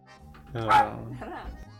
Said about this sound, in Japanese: なんて吠えてたよ。答えてたからね、今名前呼ばれてね、いなくなっちゃった。 お前が吠えたって番犬になんねんだぞ。人の足に座るな。痛い。